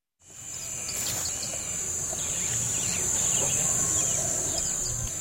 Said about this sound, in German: Leicht außerhalb von Lago Agrio zirpen die Grillen, zwitschern die Vögel.